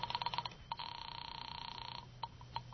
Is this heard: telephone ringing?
yes